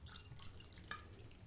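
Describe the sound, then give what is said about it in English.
Wine trickles quietly into a glass in a short, thin pour, with a couple of bright dripping plinks near the end; soft, with no voices. “Now, this is challenging to pour such a small pour.”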